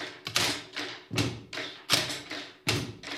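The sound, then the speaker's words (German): Schoolchildren in a classroom drum Brazilian-style rhythm with pens on desks, a steady rhythm of about eight loud, sharp knocks, each a crisp tap with a short thudding ring. No one speaks. “Auch mit kleinen Stiften kann ganz schön laut getrommelt werden.”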